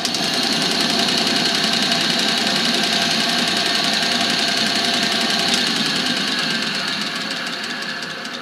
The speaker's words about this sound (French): Et ça s'appelle comment comme machine? Bande finissage.